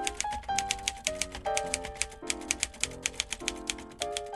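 Rapid, steady clacking of manual typewriter keys, each strike crisp, with a bright mechanical ring between bursts of typing; no voices.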